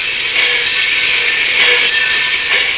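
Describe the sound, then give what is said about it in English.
A Great Valley Railroad train in motion, heard from the observation car at Northbridge, Minnesota, gives off a steady, continuous rushing hiss of rail car noise, fairly loud and even throughout, with faint swells and no voices. “Wilbur Norris, first vice president of the Great Valley Railroad, and I were sitting in the observation car of a Great Valley train at Northbridge, Minnesota.”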